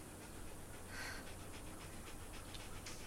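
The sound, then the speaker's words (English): A female dog pants rapidly and steadily, the quick rhythmic breaths fairly clear, with no talking over it. “It's Bob Platt's dog.”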